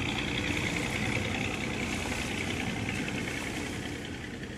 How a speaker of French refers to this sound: Heureusement, ils ont leur bateau à moteur prêt à partir. Ils voguent 3 jours et 3 nuits sur l'océan.